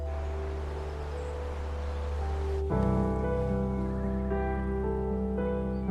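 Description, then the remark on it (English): A steady wash of running water hisses for a few seconds as part of a ritual in Japan, then sustained tonal music swells in and continues over the softer water sound. “In Japan, with the flow of water, are moments of rituals.”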